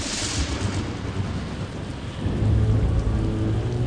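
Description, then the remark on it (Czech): Steady heavy rain hisses throughout a night storm around a shack by the sea, with wild wind, and a deep rolling rumble of thunder swells up about halfway through and lingers to the end. No voices. “Chodem noci se kolem nich rozvěsnila ohlášená bouře.”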